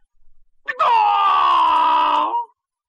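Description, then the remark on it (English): A person imitates a rooster's crow: one loud, drawn-out call with a brief rising start, holding a strained, bright pitch for almost two seconds before dropping off into silence. “This is my last crow, but it will be my best.”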